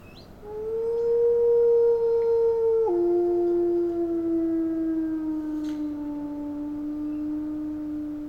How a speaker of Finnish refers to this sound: Tiesitkö, että sudet ulvovat ympäri vuoden ja enimmäkseen hämärän hyssyssä? Susien ulvontaa vaikuttaa tilanne ja paikka. Ulvonta kantaa kuitenkin yli 10 kilometrin päähän.